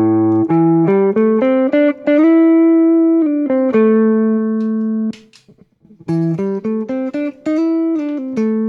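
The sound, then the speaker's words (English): An electric guitar played through a distortion pedal plays a loud melodic line of sustained, buzzy notes, stepping up and down in pitch, breaks off briefly midway, then picks up with another quick phrase. “And whenever I engage the distortion pedal, the stuff in the higher frequencies gets a little bit brighter, and there's even more information.”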